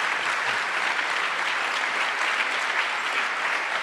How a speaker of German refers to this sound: Einen großen Applaus für deine fantastische Arbeit. Danke, Geraldine.